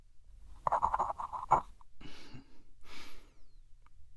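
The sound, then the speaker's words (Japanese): A pen scratches across paper in a quick burst of strokes as someone signs a contract, followed by two soft breathy exhales amid quiet. “はい、ペンここにサインして。”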